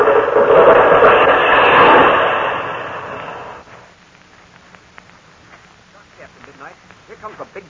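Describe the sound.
A large tree, blown over by the wind, gives way with a loud, rushing crash of crackling roots, breaking wood and thrashing branches lasting a few seconds, then it fades and people talk quietly afterward.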